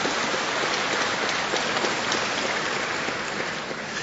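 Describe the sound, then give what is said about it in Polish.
Steady, dense clapping from a large crowd, a continuous rain-like patter of many hands at an even loudness throughout, with no voices standing out. “Ojcze, myśmy się umówili, że będziemy klaskać 5 minut po.”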